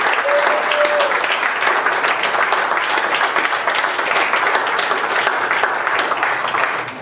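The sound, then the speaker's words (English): A church audience applauds three women steadily for about seven seconds, dense overlapping claps at a consistent loud level before tapering slightly at the end. A faint whistle-like tone briefly rises early on. “Give these ladies a hand of applause.”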